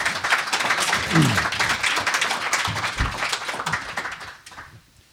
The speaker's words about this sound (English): Yeah, I was going to ask you all to clap for everybody. I think they did a really good job.